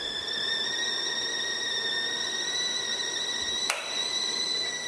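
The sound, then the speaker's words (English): A kettle at a rolling boil lets out a steady, shrill whistle over a constant rushing hiss, with one brief click partway through and no voices. “My kettle is boiling.”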